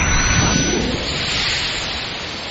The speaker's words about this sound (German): Eine der unzähligen Therapien führte mich ans Meer zum ersten Mal. Konzentrier dich auf die Wellen. Hör einfach nur auf das Meer. Hör dem Meer zu.